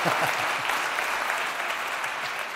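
Steady audience applause, a dense wash of many hands clapping at an even, fairly loud level for a couple of seconds, with a few faint low voice traces underneath.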